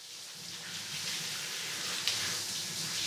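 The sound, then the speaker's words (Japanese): Shower water streams steadily, a continuous bright hiss with soft splashing underneath as it rinses shampoo foam from someone's hair with the head tilted back, with no one speaking. “それじゃあ泡を流すから頭を後ろにしてね。それじゃあいくよ。目に水と泡が入らないように気をつけてね。”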